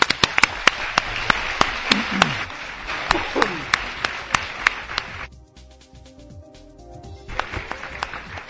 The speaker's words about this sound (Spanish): Gracias, un placer que hayas estado con nosotros. Un aplauso para ti también.